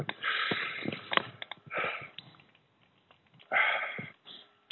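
Heavy, labored breathing of a sick person who has been bedridden for almost a week: several loud, raspy breaths with snuffling sniffs between them, broken by short quiet pauses, with no talking.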